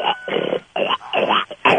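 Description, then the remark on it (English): A 900-pound pig in Clovis, New Mexico, grunts over the phone: a run of rough, snorting grunts in quick bursts with short gaps between them, loud and slightly muffled as if heard over a phone line. “Why don't you talk to the 900-pound pig first?”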